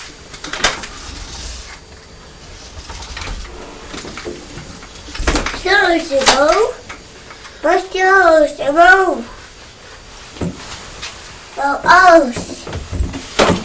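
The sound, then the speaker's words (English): A door is opened to let Purdy in, with a series of high, wavering creaks and squeals from its hinges, coming in several drawn-out bursts, with soft background voices and shuffling between them. “Just going to open the door to let Purdy in.”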